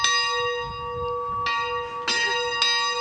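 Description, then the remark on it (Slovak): A village church bell rings out in repeated strikes, each with a bright, lingering metallic tone that hums on between them. Loud, with no one talking. “A aj tu máme možnosť zazvoniť.”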